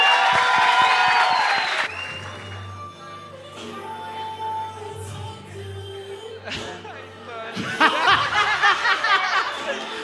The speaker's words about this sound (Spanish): Un aplauso para contrincante número uno.